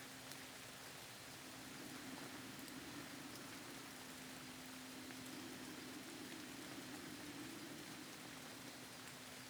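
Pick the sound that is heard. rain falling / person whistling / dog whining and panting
rain falling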